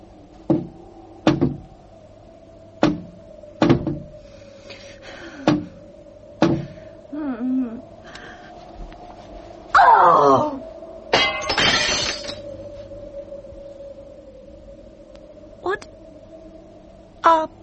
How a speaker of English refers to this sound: It was knocking against the window. I looked out and in the moonlight it was horrible.